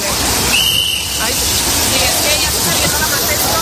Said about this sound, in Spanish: Este sonido que oyes así raro es un silbato, pero y es el ruido de la fuente, vale, del agua, ¿sabes?